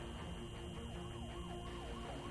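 An ambulance siren wails in a steady rising-and-falling pattern, fairly loud over a constant wash of street and traffic noise, with no one speaking.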